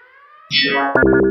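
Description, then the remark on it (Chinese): A loud electronic alarm signal warning that enemy activity has been detected: buzzy synthetic tones swell in sharply, then settle into a rapid, harsh pulsing pattern, heard alone without any voices. “警报！侦测到敌方行动，请开始第一阶段。”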